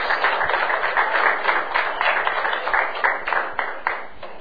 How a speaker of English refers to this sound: Give Jesus a hand clap. Hallelujah.